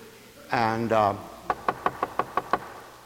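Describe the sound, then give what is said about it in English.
A brief voiced sound, then a rapid, even series of about eight sharp knocks on a door, fairly loud, each rap crisp and evenly spaced. “And it says you go to this person's door and you knock on the door.”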